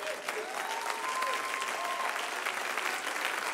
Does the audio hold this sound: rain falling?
no